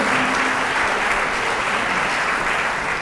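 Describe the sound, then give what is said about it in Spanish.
An audience claps steadily to see off the mayor (intendente) at an event, a dense wash of many hands applauding at an even, loud level throughout with no voices standing out. “Los vamos a despedir con este cambio de aplauso.”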